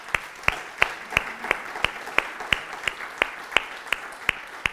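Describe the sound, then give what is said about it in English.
A church audience applauding together for a couple who recently joined: a steady wash of many hands clapping, with one clapper cutting through in a sharp, regular beat throughout. No one speaks over it. “Can we just clap them anyway? Let's do that.”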